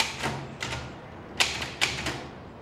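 A manual typewriter in use: the carriage is slid back to the right for a new line, followed by a handful of sharp, irregularly spaced key clacks, with no voices.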